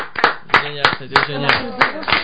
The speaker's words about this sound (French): Une bonne main d'applaudissements pour lui.